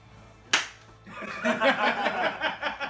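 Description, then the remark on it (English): A single sharp, loud hand clap, made to sync the audio for a recording, cracks out once, then fades into a steady wash of muffled, overlapping voices that rise and fall over the remaining seconds. “Do I have to re-clap?”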